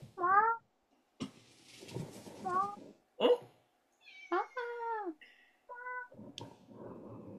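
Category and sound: animal, cat meowing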